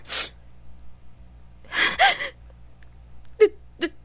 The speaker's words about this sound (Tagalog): Sige na, sabihin mo na sa akin kung bakit ka umiiyak dito sa kwarto.